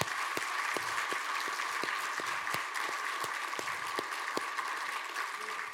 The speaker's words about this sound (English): And he will be graduating and serving our country, and would you give him applause?